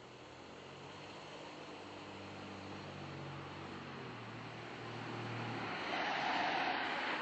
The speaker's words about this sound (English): I honestly wish it were horses and carriages I was hearing rather than motor cars.